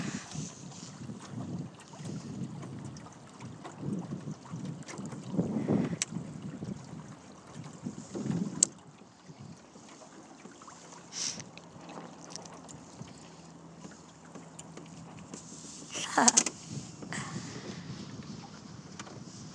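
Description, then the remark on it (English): Wind buffets the microphone in uneven gusts over a steady low rumble of a sailing boat moving through water as it sails into a marina, zigzagging against a headwind, with a few sharper bursts and faint creaks; no one speaks. “So the wind's coming directly from where we need to be, so we're going to have to zigzag.”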